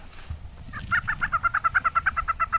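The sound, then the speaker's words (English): Lesser prairie chicken calls at a lek during Oklahoma's Lesser Prairie Chicken Festival, heard from a viewing tent: a rapid, steady run of about a dozen clucking, bubbling notes that build and carry on evenly over a low background rumble. “We heard plenty of lesser prairie chickens, but we didn't see any lekking, which disappointed all the bird watchers.”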